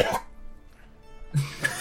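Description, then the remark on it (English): A voice imitates a wet, gurgling cough of someone coughing up blood: two short, rough bursts separated by a quiet pause, moderately loud, with no other speech. “also coughs a bit more blood.”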